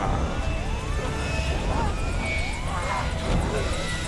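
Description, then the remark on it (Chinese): A steady, loud helicopter engine drone from a video game fills the whole stretch, with rising and falling tonal sweeps and faint voices underneath. “嗱，你连个直升机，嗱，你唔起机咪冇事咯，系咪先？”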